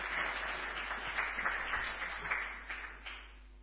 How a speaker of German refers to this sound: Ein Applaus für die Ranger.